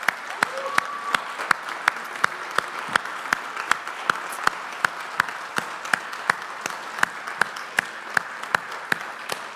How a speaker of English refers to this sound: We'd love to know that you're in the room. And then the rest of us are going to stand and applaud and honor you today. Come on, let's give them our very best.